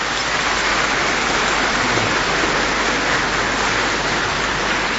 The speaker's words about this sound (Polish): Dla niego też ogromne brawa.